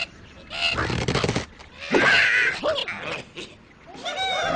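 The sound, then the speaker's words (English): Sound effects from the mobile game Angry Birds of cartoon birds being slingshotted: a noisy rubbery stretch, then loud, high warbling squawks and chirpy squeals in several bursts, with no talking. “They're birds being, what is it, catapulted? Right, slingshotted. Yes, and it's funny, when you play that clip, when I hear that sound, I can envision that happening because I've played it so much, and I think a lot of us have.”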